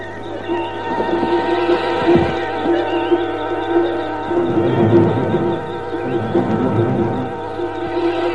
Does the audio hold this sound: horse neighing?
yes